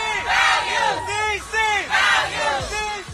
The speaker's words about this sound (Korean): 뉴욕이나 로스앤젤레스 등 미국의 대도시에서는 매년 동성애자 축제가 열립니다. 성소수자 운동을 상징하는 무지개 깃발을 흔드는 사람들. 남장을 한 여성이나 여장을 한 남성 등이 행렬하고 자신들의 성 정체성을 존중해 주기를 요구하는 구호를 외치기도 하죠.